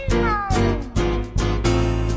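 A cat meows four times in quick succession, each call loud with a slightly falling pitch, with no voices around it.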